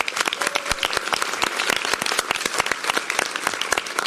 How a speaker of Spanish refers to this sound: y por eso, bueno, pues quisiera agradecerle y pedirles a todos que le demos un muy fuerte aplauso